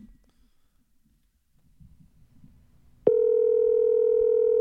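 After a few seconds of faint, low background rumble, a loud steady electronic phone tone cuts in abruptly and holds unbroken to the end, like a call line sounding, as a phone call is placed.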